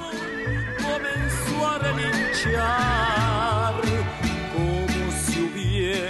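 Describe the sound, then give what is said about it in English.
A horse, the singer's own, neighs and whinnies in shaky, wavering cries over a lively band song with a steady bouncing bass line, the whinny blending closely with the music at a moderate volume. “In one of …'s songs, …, his horse even makes a cameo vocal appearance.”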